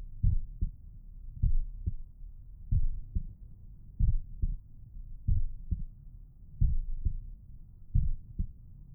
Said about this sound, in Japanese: ねえ、僕ちゃん。このまま、ママの心臓の音を聞きながら、おねんねしましょうか。